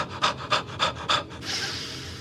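Loud, heavy breathing by the character Bashir in a TV scene: four quick, evenly spaced panting breaths followed by one long, drawn-out breathy exhale, with no talking.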